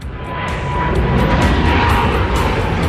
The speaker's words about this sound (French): On décolle. Enfin, apparemment, on va décoller. On espère en tout cas.